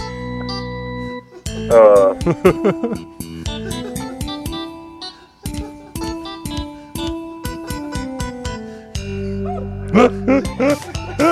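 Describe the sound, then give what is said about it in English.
A dog barks and yelps in short bursts over a busy, loud electronic music track, with a cluster of barks early on and another flurry near the end. “That dog barking is killing me, man.”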